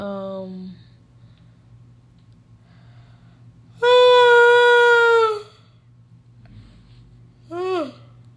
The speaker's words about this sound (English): Excuse me, guys. That was a yawn.